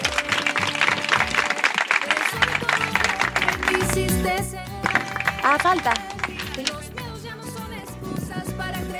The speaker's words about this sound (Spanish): Para finalizar queremos dar la bienvenida a la Biblioteca Feminista, que hoy será la inauguración. Un aplauso, por favor.